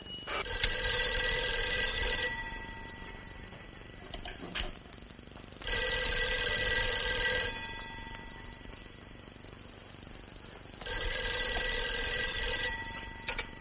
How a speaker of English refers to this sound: He answers the phone.